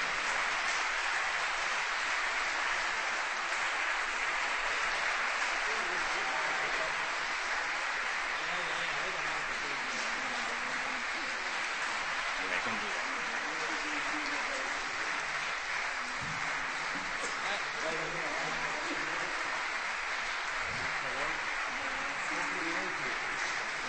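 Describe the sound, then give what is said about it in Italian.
Sustained applause from an audience at an evening concert as a female musical ensemble returns to the front for a final bow and is given flowers: a dense, steady clatter of many hands clapping for the full stretch, with faint voices mixed in underneath. “Ecco, chiediamo all'ensemble di ritornare ovviamente qui davanti per l'ultimo applauso, per consegnare anche un omaggio floreale alle gentili musiciste che ne fanno parte.”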